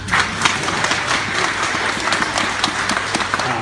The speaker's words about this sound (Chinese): 这个， 感谢大伙儿怜悯的掌声。哎， 怜悯的掌声。 我觉得说相声人挺不容易的，跟要饭的似的。你们要点掌声都这么费劲。